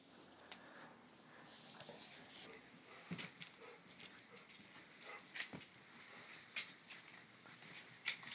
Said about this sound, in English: That is one of my favorite noises. I love to hear a dog's nails on the sidewalk, or it's cute.